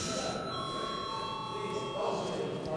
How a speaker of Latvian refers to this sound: Lūdzu vēlreiz zvanu.